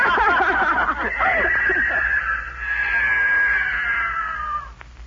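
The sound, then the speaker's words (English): A mountain lion lets out one long, loud yowl, a harsh wavering cry that starts rough and throaty, then stretches into a steady high wail for about five seconds before cutting off. “The mountain lion, he's going into the woods.”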